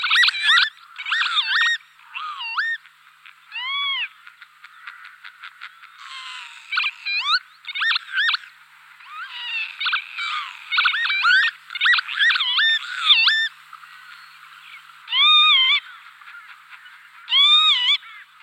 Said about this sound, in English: Lapwings make a double reed sound, a bit like an oboe, usually saying their ancient nickname, Pee-wit.